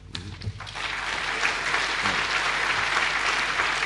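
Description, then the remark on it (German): An audience breaks into steady applause, a dense wash of many hands clapping that swells in the first second and then holds at an even, sustained level without any talk over it. “Nicht so lange klatschen, wir haben keine Zeit, danke.”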